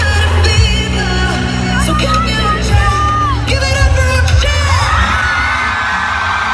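A loud, frenzied concert crowd at a pop concert in Antwerp screams and cheers nonstop during a duet, with high shrieks and whistles rising over a dense roar and a deep, thumping low end underneath.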